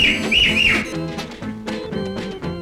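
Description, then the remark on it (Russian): Three loud, quick whistles rise and fall in a row over a full music backing, then the instruments carry on without them. “И три раза громко свистнула она.”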